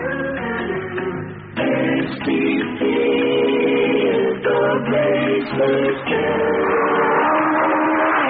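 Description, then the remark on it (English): A loud race car engine, with Mario Andretti behind the wheel for Andy Granatelli's STP team, revs steadily, its pitch dropping and climbing again with a few gear shifts, a continuous, buzzing roar that lasts throughout. “STP will be there, all right. Mario Andretti behind the wheel.”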